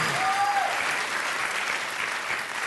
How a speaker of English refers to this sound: Okay. Oh, look at that. We're getting applause for nothing.